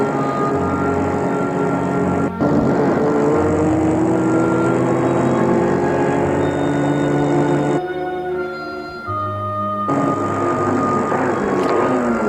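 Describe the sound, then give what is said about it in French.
A chauffeur drives a car, its engine droning loud and continuous with shifting pitch, briefly dropping away near the end before the rumble returns. “Et le chauffeur prend la voiture pour chercher Adrien”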